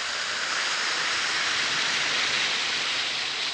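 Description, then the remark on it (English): One or two Alka-Seltzer tablets fizz steadily in a glass of water, a dense, bright crackling hiss that holds at an even level throughout, with no voices. “Drop one or two Alka-Seltzer tablets into a glass of water like this. Listen to it fizz.”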